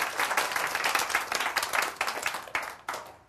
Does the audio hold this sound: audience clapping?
yes